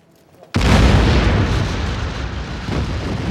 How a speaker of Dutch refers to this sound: Een gigantische knal deed hen achterom kijken. De pontonbrug over de Schelde werd opgeblazen.